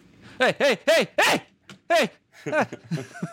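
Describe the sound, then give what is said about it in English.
A dog barks in a rapid series of sharp barks, pausing briefly before a few more quicker yelps trail off at the end. “He said dog is audible, but it's not super distracting.”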